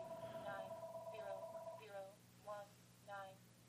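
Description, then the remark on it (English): A telephone rings with a steady electronic tone that breaks into short warbling bursts, clear, with voices murmuring underneath. “Okay, should we go for this and answer the phone and see who it is?”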